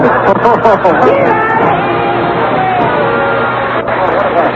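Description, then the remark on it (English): Dense crowd chatter fills the scene, many overlapping voices blending into a loud, steady babble with occasional raised shouts and whoops rising above the din. “What a crowd, eh?”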